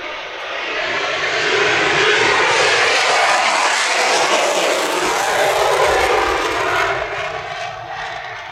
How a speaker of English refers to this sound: F-22 on the way out, and out we have another.